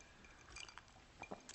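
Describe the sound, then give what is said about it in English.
Someone crunches on an ice cube, a few short, brittle cracks and clinks spread over a moment, fairly quiet, with no talking. “I'm sorry, I didn't know I got an ice cube.”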